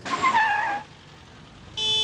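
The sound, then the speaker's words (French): A car horn sounds loud for under a second, its pitch sliding down a bit. After a brief lull of traffic noise, a second steady honk starts and continues to the end. “Eh ben, il klaxonne. C'est interdit, arrête-le.”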